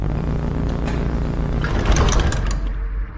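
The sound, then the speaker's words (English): A sliding door to the primary unit chamber opens with a steady mechanical hum and rumble, swelling into a brighter hissing whoosh near the end before the sound cuts off. It is loud, with no voices. “You are required in the primary unit chamber through this door.”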